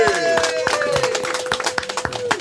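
A small group in a kitchen set up as a makeshift studio gives a round of applause, hands clapping in quick, irregular bursts that stay fairly loud, with a steady tone holding underneath.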